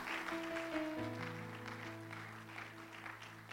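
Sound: audience clapping hands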